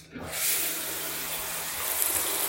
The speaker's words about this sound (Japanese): 今、シャワー流してます。